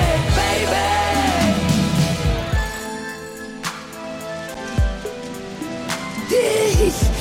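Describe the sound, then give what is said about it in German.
Steady rain falls throughout, a dense hiss with occasional sharp drips and clinks, while tonal, voice-like sounds rise over it near the start and end. “Der Regen macht mich sauer.”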